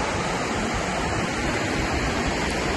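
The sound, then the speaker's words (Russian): A steady, even rush of water, like surf or a stream, around a small peninsula at the foot of a white dune in fine weather, unchanging in loudness and with no voices. “Прямо вода, слева вода, вон там справа тоже вода. Так что мы очутились на некоем подобии полуострова.”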